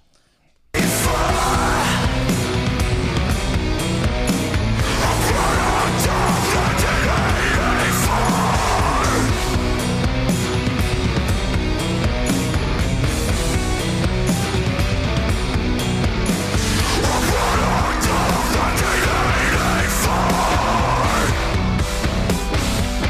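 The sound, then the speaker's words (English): A metal vocalist screams in harsh bursts at the end of a song over loud, dense, distorted band playing that starts abruptly and stays full, with the screams rising and falling in several long phrases. “And then I just wanted to show the screams at the end of the song.”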